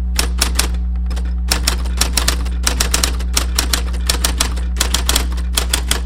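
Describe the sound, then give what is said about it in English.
An electric Smith Corona Cornet Super 12 typewriter in a typewriter shop's display room hums with a steady low drone while rapid, uneven key strikes clatter over it, fairly loud, with no talking. “How about that hum, huh?”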